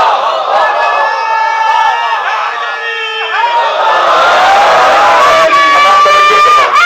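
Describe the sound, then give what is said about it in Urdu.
A large crowd shouts a religious slogan in unison, loud and sustained, voices rising and falling together like a chant with cheering mixed in, filling the whole stretch without pause. “بس بیٹا، اس لیے نعرے میں بول پڑتا ہوں چونکہ بعض لوگوں کی آواز آخر تک نہیں جا رہی ہوتی، اور اس لیے مجھے کوئی نعرے سے کوئی مسئلہ نہیں ہے.”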